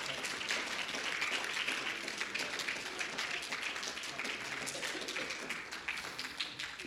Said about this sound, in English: Let's clap our hands. Let's give glory to the Lord.